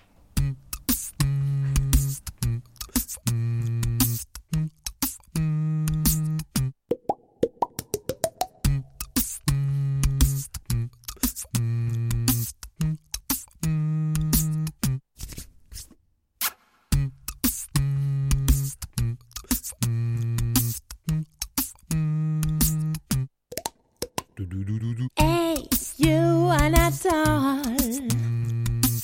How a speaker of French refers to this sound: ils font des percussions corporelles.